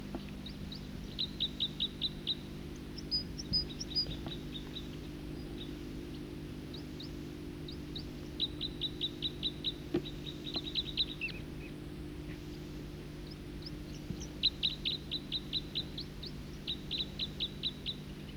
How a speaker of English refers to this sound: Both birds singing in unison.